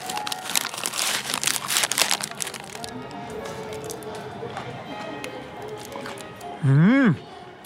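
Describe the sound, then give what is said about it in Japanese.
Loud crinkling of a traditional paper wrapper around a freshly fried, hot potato snack for about three seconds, then quieter crisp crunching sounds of bites into the snack, ending with a short hummed vocal sound. “ちゃんとこう、揚げたての匂いがねして、もう本当にこう昔ながらの袋に、袋とか紙に包んでね。いただきます。”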